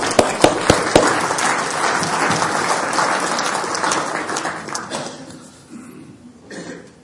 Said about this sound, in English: In that sense, maybe we could give ourselves a round of applause right now. Thank you.